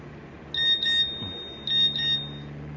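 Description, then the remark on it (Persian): A phone's text message (SMS) alert chirps twice, each a quick pair of high, bright electronic beeps with a short ringing tail, clear over a low steady background hum. “الهام پیامک فرستاده.”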